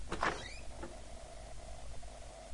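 A door to the next room, a study, opens with a brief scraping creak near the start, followed by a faint lingering squeak and quiet room tone. No one speaks.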